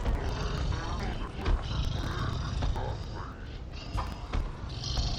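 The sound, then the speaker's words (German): An unseen creature on the upper floor of a barn breathes heavily and snorts in rough, gravelly bursts over a constant low rumble, with thin high tones lingering above throughout. “Das ist so ein komisches, schweres Atmen, so ein Schnauben, das Geräusch.”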